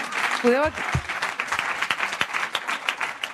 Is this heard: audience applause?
yes